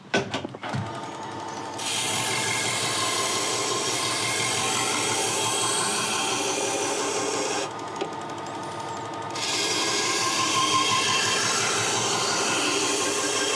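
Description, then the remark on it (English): A belt grinder fitted with a second, finer abrasive belt whirs steadily as a blade is pressed against it to remove scratches left by the previous belt, giving a continuous abrasive rasp with brief dips when the blade is lifted off, no voices present. “We're moving on to another, even finer abrasive.”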